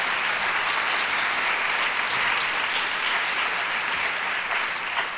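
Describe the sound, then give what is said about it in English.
Steady, sustained applause from an audience for a breast cancer survivor nearing ten years cancer-free, a dense wash of clapping that holds at an even, fairly loud level for several seconds with no voices standing out. “I think she deserves an applause for that.”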